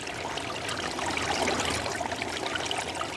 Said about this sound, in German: Weil sie das Wasser unter sich rauschen hörte, hatte sie ganz dolle Angst.